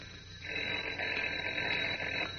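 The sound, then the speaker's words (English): A telephone in an apartment rings in one continuous burst lasting about two seconds, a bright, steady jangle over faint background hiss, with no one speaking. “But as we continue now, Kent's phone is ringing again.”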